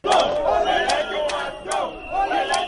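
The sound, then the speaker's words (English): A crowd of demonstrators in Kenya, camped outside the president's office and parading hundreds of red-painted crosses, chants loudly in unison, their raised voices rising and falling in repeated rhythmic phrases that continue steadily without a break. “Demonstrators camped outside the president's office for the better part of the day and paraded hundreds of crosses painted in red, symbolizing those killed in terror attacks and crime activities around the country.”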